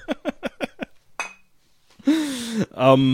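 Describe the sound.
A quick run of five bright, sharp glass clinks, then one more clink before voices call out "Prost" loudly, as people toast together while drinking.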